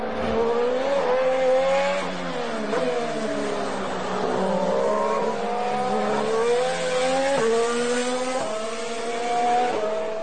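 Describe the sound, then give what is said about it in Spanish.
A Red Bull Renault Formula 1 engine screams steadily for ten seconds, its whining pitch climbing through several gears, dropping briefly at each shift and rising again, loud and uninterrupted with no voices. “Ya entramos en los tres mejores coches, Red Bull Renault.”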